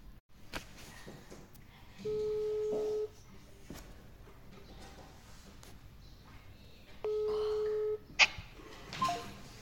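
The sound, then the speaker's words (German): Telephone dialing tones before a call: two steady, one-second electronic tones about five seconds apart, clear and moderately loud over a faint background hiss, with no talking. “Hör dir das Telefongespräch an.”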